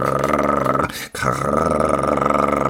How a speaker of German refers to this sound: Aber warum rennt sie um ihr Leben? Wir vernehmen es jetzt, man hört eine Kettensäge knattern.